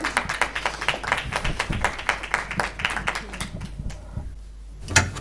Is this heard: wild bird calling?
no